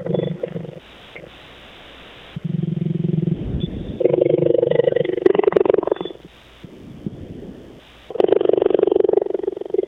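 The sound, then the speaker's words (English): A cheetah, half asleep on a person on a hot day, purrs in a steady, low rumble, the sound swelling and easing in long alternating pulses with each breath, drowsy and continuous with no voices. “So that's a half a sleep purr.”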